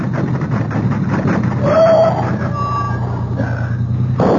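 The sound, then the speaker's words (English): A car engine rumbles steadily as the car is driven off the road across rough ground, with brief high squeals and creaks rising over the noise before it cuts off abruptly as a tire blows out, about 15 to 20 miles outside Puerto Vallarta. “I can drive the car off the road. But it'll be rough going for a moment, too.”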